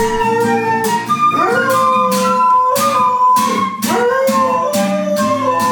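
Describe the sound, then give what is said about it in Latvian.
A dog howls in long rising and falling wails over steady music with a regular beat, its voice sliding up in pitch several times, loud, with no one speaking. “ar meitu un ļoti muzikālu suni.”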